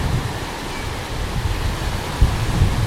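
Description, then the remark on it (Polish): Steady roar of sea waves washing onto a beach at Ustka, with wind rushing over it, a dense, continuous wash of noise with low rumbling gusts and no voices. “Z innych wieści jesteśmy sobie w Ustce. Nad morzem, na plaży.”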